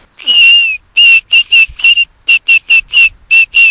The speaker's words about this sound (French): Voilà. La plante sifflet. Il y a tout ce qu'il faut là pour monter un orchestre en fonction des tailles. On s'amuse bien avec les enfants quand on vient en balade par là. On fabrique des sifflets avec les plantes. Chacun sa sonorité.